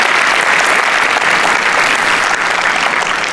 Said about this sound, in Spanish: Un aplauso al Señor, que se lo merece en esa manera. Amén.